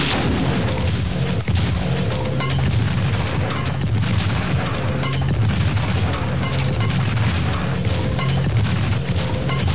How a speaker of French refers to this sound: C'est sûr que c'est assez rapide pour éviter d'être balayé par les souffles de l'explosion. Absolument certain. Sinon, on sera décoiffé.